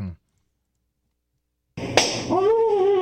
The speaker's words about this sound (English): That's …. Getting slapped in the face.